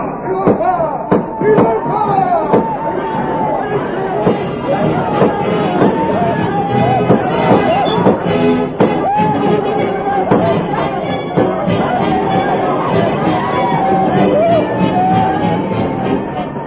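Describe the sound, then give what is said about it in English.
Outlaws raid a village with guns blazing as the Indian villagers tumble out in alarm: a loud, chaotic crowd uproar of overlapping shouting voices, punctuated throughout by sharp, sudden gunshots ringing out at irregular intervals. “Outlaws thunder down upon the village, with guns blazing.”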